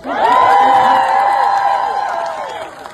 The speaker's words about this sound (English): That's a cheer moment.